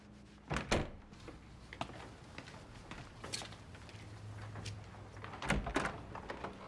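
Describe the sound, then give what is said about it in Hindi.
Someone knocks on a door in a few separate bursts: a quick pair of solid thuds, a lone knock, then another pair, with quiet room tone between and no talking. “दरवाजा क्यों नहीं खोलते?”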